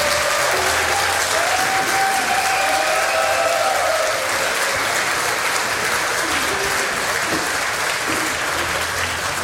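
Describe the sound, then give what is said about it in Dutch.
Sustained audience applause, a dense steady wash of many hands clapping at an even loudness throughout, with faint tonal traces of voices or music briefly underneath. “Anders moet je zo lang blijven klappen en vindt niemand leuk bij je handen.”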